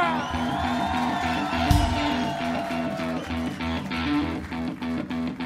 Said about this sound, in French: Cet homme est fantastique. Veuillez applaudir bien fort, s'il vous plaît